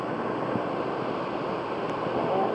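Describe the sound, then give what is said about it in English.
Steady rainfall makes a continuous, even hiss with a dense patter of drops, constant throughout, with no voices. “Beautiful rain.”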